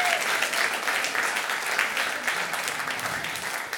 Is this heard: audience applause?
yes